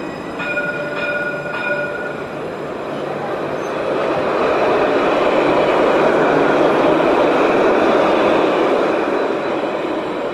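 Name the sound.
tram passing on rails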